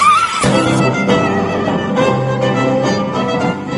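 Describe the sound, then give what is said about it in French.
A person imitates a horse's whinny with a loud, drawn-out voice, opening on a high cry that drops into a long, wavering nasal neigh lasting several seconds. “Faites-moi le cheval.”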